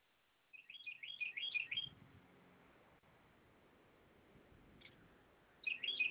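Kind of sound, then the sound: bird, birds chirping outdoors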